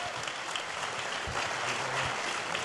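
Steady applause from a sizable church audience welcoming a guest speaker as he comes up, a dense, continuous wash of clapping that holds at an even level for a few seconds, with no voices standing out.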